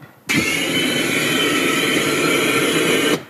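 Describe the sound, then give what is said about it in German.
A fire-breathing dragon's flame burst: a loud, steady roaring whoosh that kicks in abruptly, holds for about three seconds, then cuts off sharply, with no voices over it. “Mal schauen, könnt ihr jetzt auch so spontan Feuer spähen oder nicht Drachen da?”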